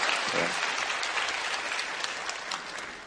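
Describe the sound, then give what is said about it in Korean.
A church audience at a special early-morning prayer service claps together after the choir's praise, giving thanks and glory to God in sustained, dense applause, a steady wash of many hands lasting the whole few seconds with no voices standing out. “찬양을 통하여서 우리 영광 받으신 하나님 앞에 다시 한번 감사와 영광의 박수 올려드립니다.”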